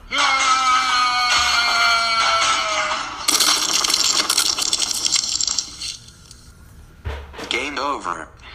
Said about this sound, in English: Now that sound indicates death by pit, meaning I've fallen into a pit.